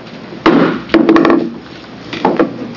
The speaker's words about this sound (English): I did it just because I love the sound of it, so don't be surprised. I just gaveled you in for an informational meeting.